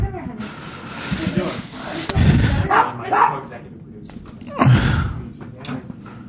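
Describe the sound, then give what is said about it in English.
Dogs bark in a few short, loud bursts, a cluster midway through and another sharp one near the end, with indistinct voices and background noise. “Oh, the dogs are barking.”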